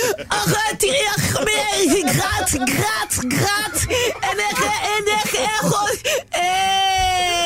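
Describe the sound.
A voice on a morning show on Chéri FM radio imitates the crying child of Rotterdam: loud, continuous wavering sobs and whines for several seconds, ending in a sustained high-pitched wail.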